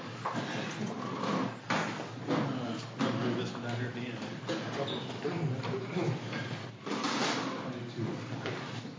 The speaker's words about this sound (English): Move a little chair.